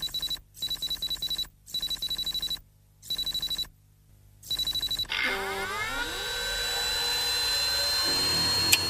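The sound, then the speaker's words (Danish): An old mainframe computer with tape reels starting up in the opening shot of a 1975 film: five rapid, buzzy high-pitched bursts separated by short silences, then a steady whirring whine that rises and swells as the machine spins up. “Sådan lyder en computer, altså en EDB-maskine, hvis vi skal kalde det på den måde.”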